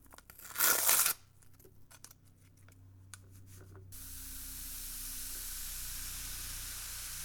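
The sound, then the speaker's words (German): A brief loud gush of hot water poured over a packet of baking powder in a bowl, followed by sustained crackling fizz and hiss as the baking powder bubbles, growing steadier toward the end. No one speaks. “Das Backpulver nun in eine Schüssel geben und ein bisschen Wasser darüber gießen.”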